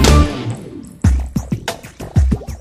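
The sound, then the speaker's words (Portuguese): Raindrops drip plinking one after another at an uneven pace, each with a soft low thud, fairly loud, following a brief splashy burst at the start; no voices. “De repente o pingo aqui, o pingo ali, o pingo lá, começou a chover e chover sem parar.”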